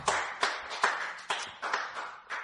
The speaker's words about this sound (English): Praise the Lord. Give the Lord a cheer, folks. Praise God.